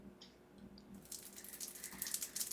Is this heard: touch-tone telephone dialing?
no